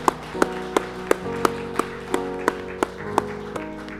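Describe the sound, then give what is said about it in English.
Steady, evenly spaced claps, about three per second, ring out sharply over a sustained musical tone, like an audience clapping along in time rather than breaking into scattered applause; a church audience applauding the dads present. “In fact, let's give it up for you dads in here.”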